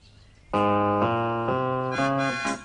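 A swarm of bees buzzes loudly, circling in front of the door of Pat and Mat's house, a rich, rasping drone that jumps up and down in pitch in a few abrupt steps before cutting off, with no voices.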